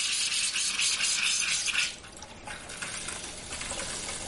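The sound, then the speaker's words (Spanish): A steady stream of water runs from a bathroom sink tap as it is turned on, a bright hissing splash that holds strongly for about two seconds, then softens to a quieter, thinner flow. “Abre el grifo.”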